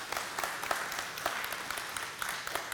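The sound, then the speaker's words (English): A crowd applauds steadily for graduating students, many hands clapping together in a dense, continuous patter that stays fairly even for a few seconds. “You're graduating. Congratulations. It's applause.”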